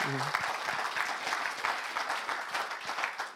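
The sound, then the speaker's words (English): An audience claps steadily for a few seconds, a dense wash of overlapping hand claps at a moderate level, with a brief vocal tone at the very start. “Let's clap that.”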